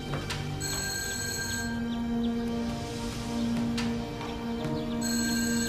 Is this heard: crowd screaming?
no